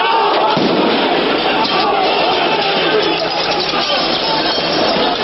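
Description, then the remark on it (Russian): A loud, chaotic crowd of demonstrators roars continuously during clashes with police at a large march, while scattered sharp bangs of firecrackers and blast packets go off within the din, with a few sudden cracks standing out against the shouting. “В ход пошли камни, петарды, взрыв-пакеты.”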